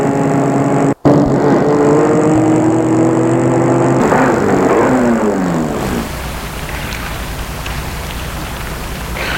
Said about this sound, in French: Il arrive devant l'immeuble où habite Harold. Il va arrêter sa voiture.